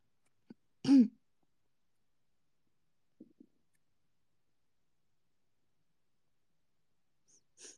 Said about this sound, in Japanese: お腹が鳴ってる。ギルギルいってる。